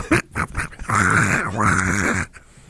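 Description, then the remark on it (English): A human voice imitates a badger call: a few quick, breathy huffs like a panting dog, then two long, strained, wavering growls, loud and harsh, with no other talk. “The badger sounds like a panting dog that is having a seizure”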